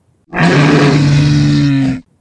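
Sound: dinosaur roar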